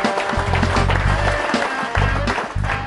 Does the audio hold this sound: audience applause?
yes